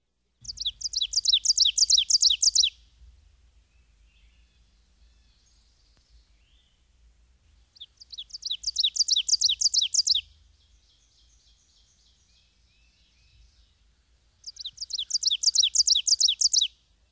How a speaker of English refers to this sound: Another warbler with a two-noted vocalization is the ovenbird. His emphatic song, given from a low perch in the forest understory, repeats the phrase, "Teacher, teacher, teacher."